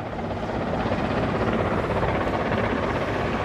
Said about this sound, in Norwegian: Dette helikopter lagde jo et voldsomt bråk. Jeg må si at denne lyden av helikopteren gir meg en ubehag. Det lyden av død og fordervelse, enten du ved fronten av Ukraina eller andre steder.